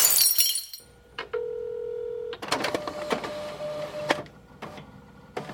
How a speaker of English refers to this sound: I will, just this once, I will break the glass on the backup, for emergency use only, mind you, Geek-O-Matic Telefax.